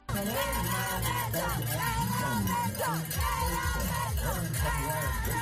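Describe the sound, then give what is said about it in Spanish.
A crowd of children in South Africa shouts and cheers together nonstop as two participants reach the finish line of one stage of an eight-stage race, their high voices rising and falling in excited overlapping calls that stay loud throughout. “Así gritaban unos niños en Sudáfrica cuando Richard y Óscar llegaban a la meta en una de las 8 etapas.”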